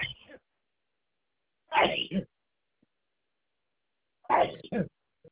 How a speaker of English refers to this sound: Bless you. Bless you.